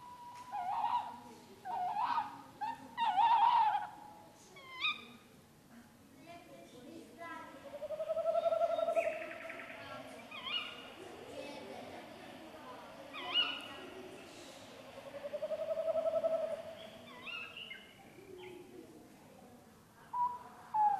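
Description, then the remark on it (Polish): A tawny owl gives a run of sharp, repeated calls, the screeches of a female, then two long, wavering hoots spaced several seconds apart, clear against a quiet night background. “To był głos puszczyka i to są piski samicy, natomiast takie bardziej sowie, może kojarzące się bardziej z sowami uchu”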